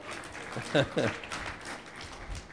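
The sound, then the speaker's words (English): The women in an audience give the Lord a clap, a steady, dense, noisy patter, with a couple of short voiced shouts or cheers rising above the applause early on before it carries on at an even level. “How about all the ladies give the Lord a clap?”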